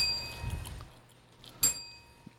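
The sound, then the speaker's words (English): A small hand bell from a game set rings with bright, high, lingering tones, then gives one sharp, louder clang before the ring fades over a faint low rumble. “Practice on your bell.”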